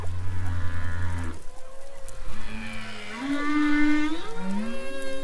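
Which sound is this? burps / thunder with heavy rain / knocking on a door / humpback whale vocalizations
humpback whale vocalizations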